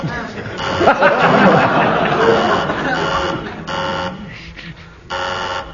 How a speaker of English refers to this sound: Who buzzed my buzzer? I did. You lose marks for buzzing the buzzer.